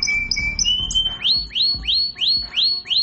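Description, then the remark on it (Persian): A canary sings on its own, opening with high, steady whistled notes, then a quick run of six bright, rising chirps repeated in an even rhythm. “ناز نفست قناری.”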